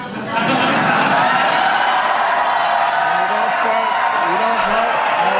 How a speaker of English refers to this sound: So you heard the cheers from the crowd there